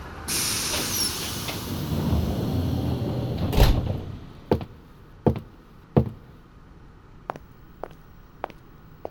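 A door of the sleeper cruise train Royal Seven opens with a long pneumatic hiss of air and a solid thump, followed by several sharp, spaced-out clicks and knocks. No one speaks.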